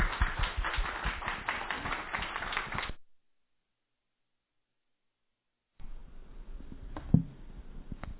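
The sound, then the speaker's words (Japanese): A church audience claps in a dense, steady burst for about three seconds to welcome a guest preacher, then the sound cuts to silence before low rustling returns with a single soft thump. “それでは拍手を持ってお迎えしていきましょう。”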